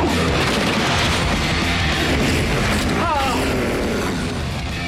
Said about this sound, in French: Alors après, c'est que des bruits d'accidents de voiture et d'explosions,